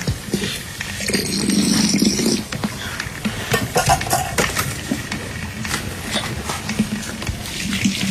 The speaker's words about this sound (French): Voilà, ça y est, le café est pilé. Elle remet de l'eau dans la cafetière qui est sur le fourneau.